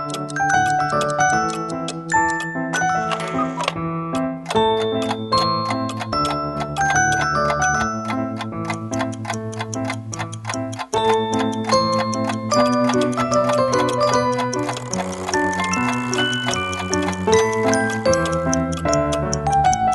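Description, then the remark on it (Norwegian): A steady clock ticking runs throughout, woven into continuous melodic, chime-like music with sustained low notes; the ticks are loud and evenly paced, with no voices. “Jenta har fått en klokke.”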